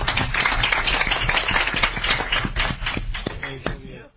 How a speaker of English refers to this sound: So anyway, a round of applause for her last council meeting.